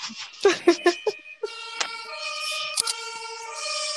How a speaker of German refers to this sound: Feuerwehrunterbrechung. Wegen meinem guten Witz. Die müssen alle ausrücken, weil alle vor Lachen umgefallen sind.